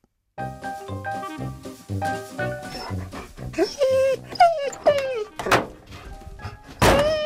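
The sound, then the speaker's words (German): The dog Locke whimpers and lets out short, high yips after a few dull thumps; the whining notes rise and fall several times in the second half. “Oh, gerade noch geschafft, Locke. Wo ist denn die Hundetüte?”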